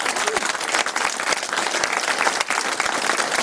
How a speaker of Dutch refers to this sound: En dan wil ik een daverend applaus voor al deze mensen.